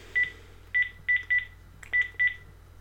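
A series of six short electronic keypad tones in an uneven rhythm as a phone number is dialed again to place a call, fairly clear against a quiet low hum with no one talking.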